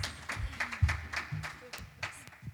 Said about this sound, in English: You can give this mother a clap as she comes.